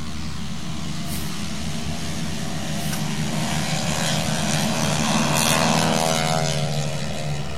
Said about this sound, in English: Okay, let's go back up and let's wait for the planes to go by.